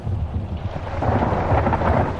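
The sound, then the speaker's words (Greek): Heavy rain pours steadily outside on a December night in Larissa, Greece, while a deep rumble of thunder rolls underneath, growing louder and fuller partway through. No voices, just the dense wash of a storm. “Έξω βρέχει άγρια.”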